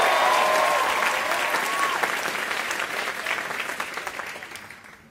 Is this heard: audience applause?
yes